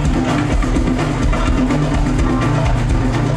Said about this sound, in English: Driven by the pulsating beat of the krakibs, metal castanets that are played at astonishing speed. This is the musical legacy of enslaved black Africans brought to Morocco in medieval times.